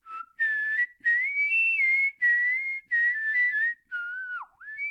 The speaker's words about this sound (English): He'll be whistling a song he wrote called Smokin' Rats. It actually popped into my head as a kind of a Ukrainian sort of a tune, but then I actually redid it as a blues tune.